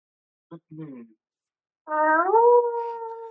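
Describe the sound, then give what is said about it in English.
A person imitates a soft wolf howl: two short vocal bursts, then a sustained, gently rising howling tone held for over a second. “That was a really good little quiet howl.”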